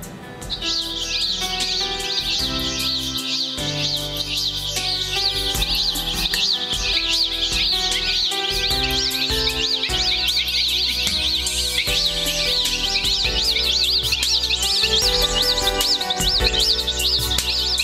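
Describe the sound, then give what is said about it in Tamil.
A dense chorus of birds of many different kinds chirps and sings without pause for the whole stretch, bright and fairly loud, layered over steady low sustained tones like a soft musical backing. “தண்ணீரையும் ஆகாய விரிவையும் அவர் பிரித்ததுக்கு பிறகு வித்தியாசம் வித்தியாசமான ஜாதிகள் உள்ள எல்லா பறவைகளும் அந்த ஆகாய விரிவை நிரப்பட்டு பண்ணி சொன்னார்.”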